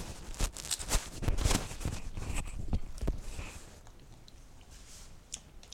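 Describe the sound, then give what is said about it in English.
Crisp crunching of someone munching cheese and onion crisps and square crisps as a snack, with irregular bursts of loud chewing that are busiest early on and then thin out into quieter, scattered crunches. “We're munching away here, aren't we? We won't do much recording when we're eating up cheese and onion crisps and square crisps and oops.”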